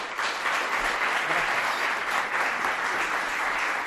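An audience applauds steadily, a dense wash of many hands clapping at an even, fairly loud level for a few seconds, with no voices standing out.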